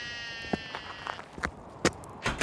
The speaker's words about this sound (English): But before we do that, we'll have to dodge these sheep that have just walked across the road in front of us.